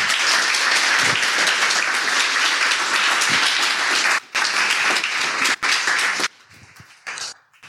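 Steady, dense applause from an audience fills the room for several seconds, then thins out and breaks into scattered claps before fading.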